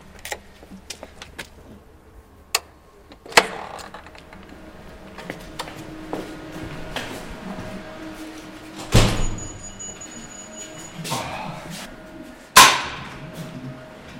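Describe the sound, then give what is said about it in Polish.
Doors in a prison open and shut one after another as people pass through them to leave a ward, with latch clicks and several heavy metallic thuds spaced a few seconds apart, fairly loud against a quiet, echoing background. “O, jeszcze tylko 3 pary drzwi.”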